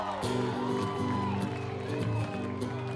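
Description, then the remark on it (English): A crowd cheers, whoops and claps steadily for Kristen Lee throughout, a loud, continuous wash of noise with music playing underneath. “Somebody make some motherfucking noise for Kristen Lee!”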